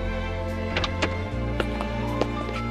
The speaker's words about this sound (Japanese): よーし、ベラ座から出てくる2人。ランドル君がドアを開けて、アスカ君を車に乗せる。